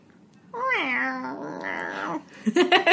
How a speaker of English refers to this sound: We need a cat sound.